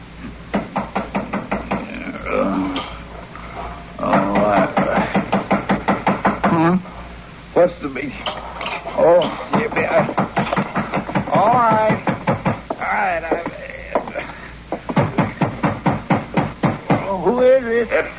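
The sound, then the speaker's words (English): Repeated knocking on a locked door in several insistent bursts of rapid raps, loud, with short pauses between rounds and muffled voices underneath. “What have you got the door locked for?”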